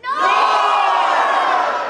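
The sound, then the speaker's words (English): A large crowd yells the word "north" together in one loud, sustained burst, many voices blending into a roaring shout that holds for about two seconds before tapering slightly. “If you believe that Joe lives on the north side, yell north when I point at you.”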